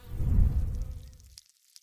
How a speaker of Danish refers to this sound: Det myldrer med bier herinde. Den store bi der, det er dronningen.